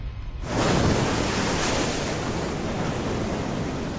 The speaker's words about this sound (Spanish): Hombres, animales y plantas sufren la violencia del viento y del mar. El arrecife frena en primera instancia el ímpetu de los huracanes, pero es el manglar el que disipa con sus raíces la energía del agua desbocada